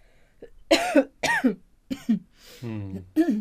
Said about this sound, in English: My cough is much improved, but I still suffer from a dreadful shortness of breath. Your color's not good. Cough for me, please.